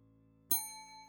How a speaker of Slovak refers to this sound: Ozvalo se cinknutí malého hotelového zvonku a na recepci nervózně přešlápl mladý muž.